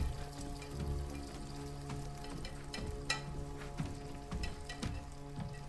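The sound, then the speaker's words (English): A father cooks sunny-side-up eggs in a frying pan in a kitchen, the food sizzling and crackling in a steady hiss broken by irregular sharp pops, along with a low constant hum underneath. No one speaks. “Connor finds his father cooking in the kitchen.”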